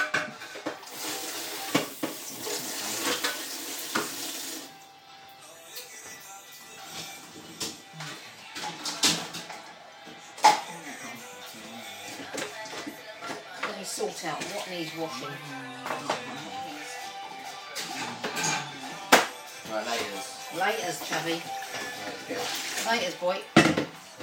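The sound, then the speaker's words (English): Washing up at a sink: a few seconds of steady running water, then repeated clinks and clatters of dishes and cutlery knocking together, with a voice murmuring now and then. “Right, washing up time. Most of it's going to get shoved in the dishwasher, but not all.”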